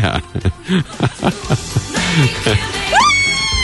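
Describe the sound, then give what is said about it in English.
A voice makes choppy, giggly vocal bursts, then breaks into a rising, high-pitched squeal near the end, a loud imitation of excited fans screaming and yelling for a singer. “And they go and they scream and yell”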